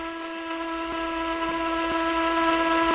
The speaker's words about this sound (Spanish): Es el sonido de un barco.